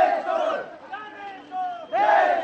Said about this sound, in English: Not so long ago, a crowd chanting slogans against a Nepali king would have been unimaginable.